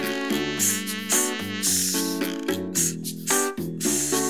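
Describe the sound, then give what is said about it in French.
A snake hissing in a run of sharp, rhythmic bursts, loud, layered over bright tuneful music with steady sustained notes underneath. “Un serpent qui siffle.”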